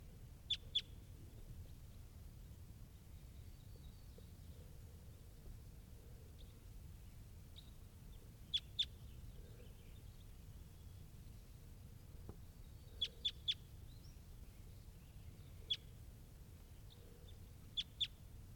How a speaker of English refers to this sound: And there are some wild crossbills here, including this one up in the top of the tree.